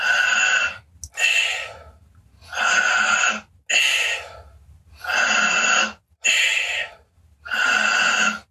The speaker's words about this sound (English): Do it through the mouth, keep on breathing, do it through the mouth, because then it's easier to get a lot of oxygen, energy in a short time inside, and then letting go. Deeply in, letting go. Deeply in, letting go.